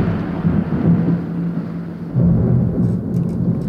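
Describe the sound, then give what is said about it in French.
Steady, dense rain hisses continuously alongside a deep low rumble, like a storm, with a brief dip just before two seconds before the downpour swells again. No voices are heard. “Tiens, là la pluie.”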